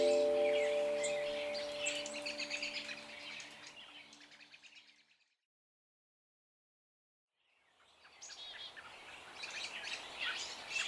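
A busy chorus of birds in a small grove of cottonwood trees chatters and chirps in overlapping calls, fading away to a few seconds of silence before the dense twittering rises again.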